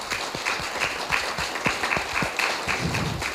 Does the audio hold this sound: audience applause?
yes